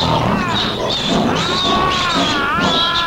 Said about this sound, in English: Turned loose the lion! And so the lion went roaring into the arena.